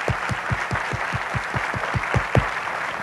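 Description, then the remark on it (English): An audience at a tent meeting applauds to give the Lord a hand, a dense, steady wash of clapping, with a regular low thumping pulse running beneath it several times a second. No one speaks. “Can you give the Lord a hand?”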